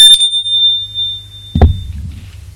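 A doorbell at the door of a man's home rings with one bright, high metallic tone that lingers for over a second before a dull thump cuts in, over a low steady hum. No one speaks.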